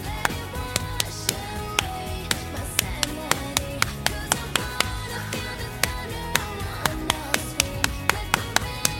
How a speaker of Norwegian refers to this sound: Da må du klappe I takt til denne sangen her. Klapp foran kamera.